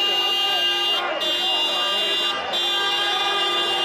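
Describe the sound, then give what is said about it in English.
Several car horns blare at once in Chicago, where about 100 protesters demand an end to coronavirus pandemic restrictions. The horns form a long, unbroken chorus of loud, overlapping tones, with a faint murmur of street noise and voices beneath. “Car horns in Chicago as … and about 100 others say they can fend for themselves.”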